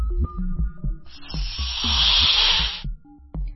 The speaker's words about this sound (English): Turns out, most snakes hiss. However, the larger ones, well, most snakes have the ability to hiss, but the larger ones are more likely to hiss. The smaller ones not.